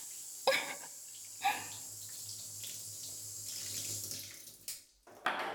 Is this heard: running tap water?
yes